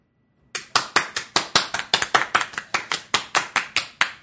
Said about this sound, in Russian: Аплодисменты, переходящие в овации.